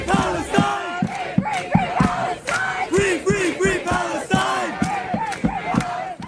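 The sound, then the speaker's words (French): A large crowd at the University of Texas at Austin campus chants a slogan in unison, loud, rhythmic bursts of many voices rising and falling in a steady repeating cadence, with shouts and cheers mixed in. “Des tentes, des drapeaux, des étudiants de divers horizons, et un même slogan entonné par la foule, ici, à l'Université du Texas, à Austin.”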